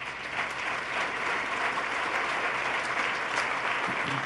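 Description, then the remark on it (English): A large audience claps steadily for several seconds after a speaker announces the elimination of 5,500 prison beds, a dense, even wash of applause with no voices standing out, sustained at a constant level from start to finish. “The bad news, you should applaud for that.”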